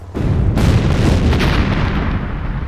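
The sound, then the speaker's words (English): Heavy, rumbling flameless explosions produced by ECDs roll together in a loud series, shaking a street, deep booms layered over each other with a crackling burst partway through, sustaining a dense low roar with no pauses. “They no sooner did when a series of concussive detonations shook the street, but the blasts had been shaped to blow at Salvo's position rather than at the Jedi.”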